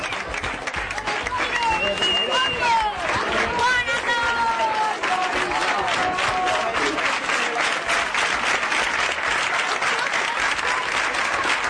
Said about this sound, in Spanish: Esto es más de un minuto de aplausos a través de los pasillos que conducen a la salida de un colegio. A los lados, por los pasillos, los alumnos, los profesores y algunos padres también.